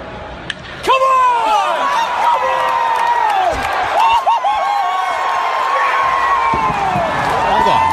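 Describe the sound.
A loud stadium crowd roars and cheers continuously, with a man's voice screaming and yelling excitedly up close over the din for the whole stretch.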